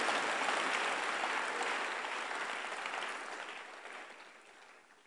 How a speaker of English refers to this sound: And so you see, when people are clapping, I'm sure this election, some people betted.